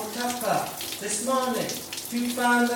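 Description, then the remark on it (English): Steady hiss of running shower water fills the background while a voice sings a held, wavering melody over it, fairly loud throughout. “If you come up with a melody and lyrics in the shower”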